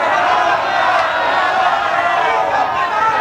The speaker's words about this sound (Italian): Urlate come un solo uomo.